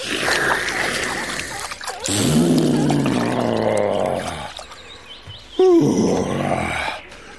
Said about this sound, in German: So, und noch ein Schluck. Ja, jetzt geht's mir besser. Und noch ein Schlückchen in den Rüssel und dann über den Rücken gießen.